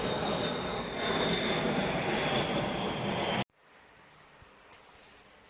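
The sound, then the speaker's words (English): A loud, steady airplane engine roar with a thin high whine riding on top as the airplane flies overhead, then it cuts off abruptly after a few seconds, leaving near silence. “The airplane lights up the night.”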